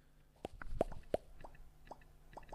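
A series of short, bright pops from clicking the Popcat game, a cat that opens its mouth when clicked, about eight in irregular succession, the first few louder and the later ones softer, over a faint background hum.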